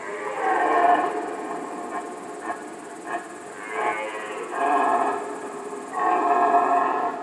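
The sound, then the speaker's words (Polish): An old, experienced red deer stag roars during the rut, several deep, drawn-out bellows in a row with short grunting pauses between them, fairly loud, with no one talking. “A skoro jesteśmy przy nazewnictwie, to taki byk z donośnym rykiem, stary, doświadczony, zwany jest basistą.”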